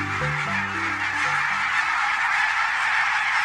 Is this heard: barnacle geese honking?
yes